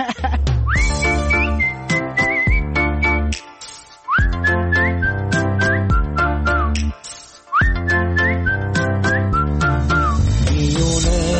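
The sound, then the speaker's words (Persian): A human whistles a bright, sliding tune in three short phrases over a steady instrumental backing with bass and chords. The whistling is prominent, and no one talks. “سوت بزن حتی.”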